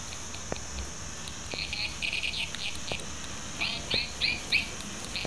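A bird chirps in two short bursts of rapid, high-pitched trills separated by a brief pause, fairly soft against a quiet background hiss with no talking.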